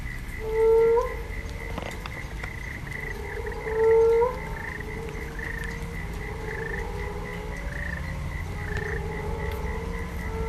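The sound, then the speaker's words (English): A chorus of frogs calls from a flooded lake pan, with two louder croaks rising out of a steady, overlapping background of fainter calls and a constant high insect-like trill. “Tadpoles will then venture out into the swamp, eventually becoming next year's frogs.”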